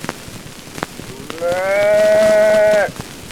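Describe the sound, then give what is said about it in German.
A person imitates a calf's bleat: one sustained, nasal bawling call lasting over a second, fairly loud, preceded by a few faint clicks and breaths. “Imitation eines Kalbes.”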